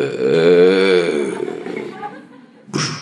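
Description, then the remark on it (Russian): A voice imitates a creaking, unoiled door like the doors in Yavat: a drawn-out, wavering nasal groan for about two seconds that gradually fades, followed by a brief breathy burst at the end. “А двери все в Явате вот такие.”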